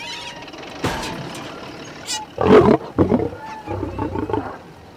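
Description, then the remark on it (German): A deep, rough lion roar swells up loudly in the middle, followed by a second, shorter growling burst, with a faint mechanical rumble and a brief high whine in the background. “So ein Löwe ist in den Jeep?”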